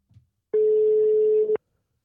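A single steady ringback tone on an outgoing phone call to an interview guest: one loud, even, mid-pitched beep lasting about a second, then silence, with a faint click just before it.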